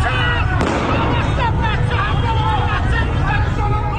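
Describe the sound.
A single sharp gunshot-like crack rings out early, cutting through a dense, loud crowd hubbub of many voices talking and shouting outdoors on a street in the Narmak neighborhood of Tehran, Iran, where security agents were shooting.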